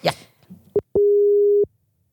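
A telephone ringback tone heard while calling: a brief blip, then one long, steady, single-pitch beep lasting under a second, fairly loud and clear, followed by silence.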